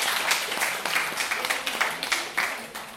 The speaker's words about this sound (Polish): Pierwsze miejsce, nie opuszczają podium. Gratulujemy jeszcze raz wielkie brawa dla Państwa.